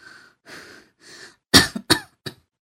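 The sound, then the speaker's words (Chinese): Harsh, violent coughing with a humming, rumbling chest: three raspy, drawn-out hacks followed by a quick burst of four louder, sharp, explosive coughs, with no speech. “他一个劲儿的猛咳，那胸口嗡嗡的响。”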